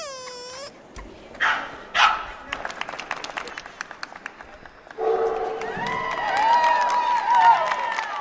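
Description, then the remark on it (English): Dogs bark and yip at a two-day dog show at the Cow Palace, with short sharp barks scattered over a busy crowd murmur and bursts of clapping, then a denser wash of overlapping barks and whines. “Yep, the dog show.”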